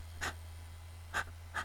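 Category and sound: human body sound, fast heavy breathing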